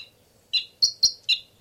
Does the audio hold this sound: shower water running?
no